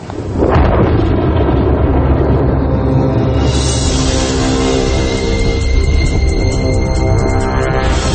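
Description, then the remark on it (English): Thunder rolls in with a sudden crack and swells into a loud, deep, continuous rumble that churns on for several seconds without fading, as cold and warm air masses mix. No one speaks. “And that thunder that you hear is because what's happening is as the cold and warm air masses mix, it's a clash of extremes.”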